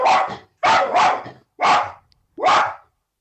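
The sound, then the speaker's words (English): A dog barks sharply and loudly at the postman, several quick barks in short bursts, some doubled, separated by brief silences. No voices. “I love the fact that the dog's laughing there.”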